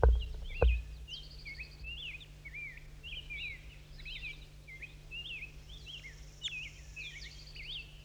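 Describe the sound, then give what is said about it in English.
A wild bird calls in a steady series of short, high, twittering chirps that run throughout, fairly soft over a low constant hum, with a brief thump at the start and no talking. “That's him. It's a wild bird.”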